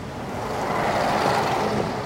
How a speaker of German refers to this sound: Und da hinten kommt der Bus.